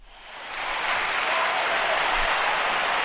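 Applause from an audience for Heinz Waldenmeier, Germany's oldest apprentice, who finished butcher training at 69, rises quickly in the first half second, then holds as a steady, dense wash of clapping at a strong, even level with no voices.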